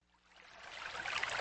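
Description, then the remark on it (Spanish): Water pours in a steady, rushing stream that swells in volume over a second or so, bright and splashy, with no voices. “Agua, el líquido esencial de la vida.”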